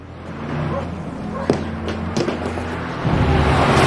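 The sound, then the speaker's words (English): A Humber car engine rumbles steadily and grows louder toward the end as it approaches, with a couple of sharp knocks or thuds in between. “Both men race to the kitchen window as the Humber approaches.”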